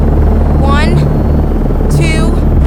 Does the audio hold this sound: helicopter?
yes